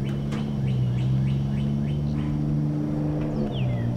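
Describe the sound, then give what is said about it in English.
Car engines idle and rumble steadily as cars pull up behind a school on a warm, sunny Monday morning, while birds chirp in quick repeated calls in the background. No one speaks. “Cars pull up behind Owl Creek School on a warm and sunny Monday morning.”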